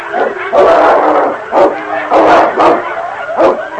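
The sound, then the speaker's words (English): A large dog, King, fights the leader of a wolf pack in wind and deep snow, snarling and growling fiercely and loudly, with rough overlapping bursts of noise and sharp yelps flaring up every second or so. “The sound of the wind was split by snarls and growls of fury.”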